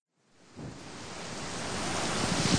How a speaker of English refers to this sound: The weather's terrible. I know. Do you think they'll cancel the crossing? I'm not sure. Look at those waves. They must be 6 metres high. Surely a ferry can't cope with that.